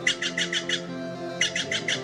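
Harsh, rapid squawks from a Steller's jay in two bursts, five calls then a short pause and four more, loud and raspy with a low steady hum underneath.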